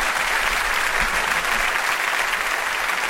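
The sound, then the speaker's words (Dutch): A crowd claps steadily for the WDR Big Band, the dense patter of many hands forming a loud, continuous wash of applause that holds even throughout, with no voices breaking through. “Applaus voor de WDR Big Band.”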